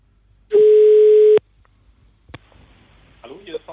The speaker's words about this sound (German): und wir versuchen ihn mal anzurufen. Ans Telefon zu bekommen.